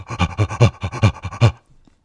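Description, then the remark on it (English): Loud, rhythmic guttural gorilla-like breathing by a crouching man into a tube, reverberating back through glass: about eight quick, heavy pants in a steady run, resonant, then it stops abruptly. “He started doing this sort of rhythmic, guttural, gorilla-esque breathing through the tube.”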